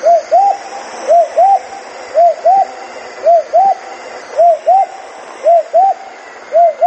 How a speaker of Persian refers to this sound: فاخته پرنده خوش آواز دیگری است که آواز آن در فصل بهار شنیده می شود. بیشتر مردم تصور می کنند پرنده ماده آواز نمی خواند، ولی این طور نیست. فاخته نر نیز آواز می خواند، البته نر و ماده شبیه هم نیستند.